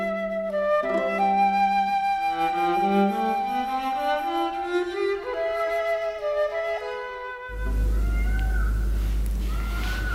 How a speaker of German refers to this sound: Ja, jetzt hört man sogar hier innen im unterhaitischen Kabinett die Pfauen schreien.